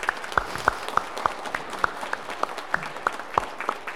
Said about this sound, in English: Let's support her now with a round of applause.